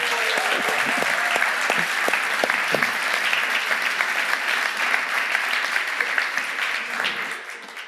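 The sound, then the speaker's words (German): A large audience at a church service applauds four people being baptized, steadily for several seconds, a dense wash of clapping hands with a few cheers mixed in, then the applause begins to taper off at the end. “Steht doch nochmal ganz kurz auf, lasst uns euch nochmal einen Applaus geben.”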